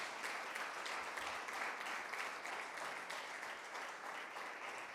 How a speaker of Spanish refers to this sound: Así que nosotros estamos muy contentos y yo creo que Dios se merece un fuerte aplauso. ¿Lo creen? Amén. Gloria a Dios.